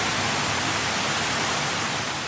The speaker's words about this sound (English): pink noise is a constant background sound that contains a mix of white noise and brown noise.